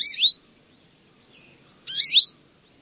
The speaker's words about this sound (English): The liveliness and calls of a batch of chickadees, nuthatches, jays, or finches will break the spell of a dreary day.